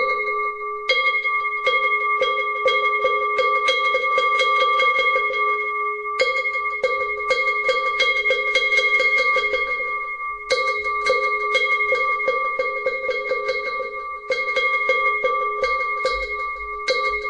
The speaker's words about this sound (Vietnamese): Để bây giờ thì bắt đầu vào thì chúng ta cũng cho ba hồi chuông mõ như thế này đã.